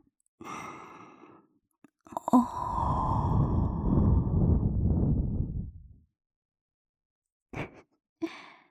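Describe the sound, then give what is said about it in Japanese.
Breath blown right up close into the ear: a short intake, then a long, airy exhale lasting several seconds, followed after a pause by two quick soft puffs, with no talking. “マジで息かかるたびにビクビクすんじゃん。”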